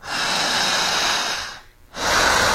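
Slow, deep breathing during a breathing exercise: a long, loud airy breath lasting over a second, a brief pause, then the next heavy breath begins. No one speaks.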